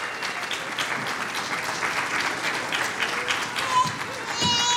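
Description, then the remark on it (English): Steady audience applause for the children, filling the whole stretch, a dense patter of many hands clapping at an even loudness, with a few faint voices and a brief whistle rising near the end. “And also, y'all feel free to applaud as much as you want to during this time for our children, because, you know.”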